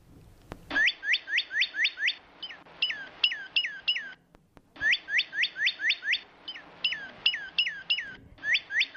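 A Northern Cardinal, a bright red songbird, sings loud, clear whistled phrases: a quick series of about six slurred notes, then slower ones, repeated twice, with no talking.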